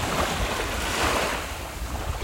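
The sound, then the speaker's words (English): Steady, rushing ocean surf fills the scene, a broad continuous wash of waves with a slight swell in the middle, with low wind rumble underneath and no voices. “There were other harbor seals swimming in the surf nearby.”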